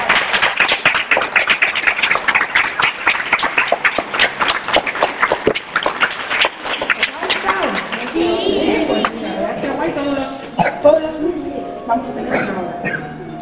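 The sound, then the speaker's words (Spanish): A crowd claps at the close of Menuda Voz, a dense burst of rapid applause that fills the first half, then thins out as voices start talking over the last scattered claps. “Un aplauso.”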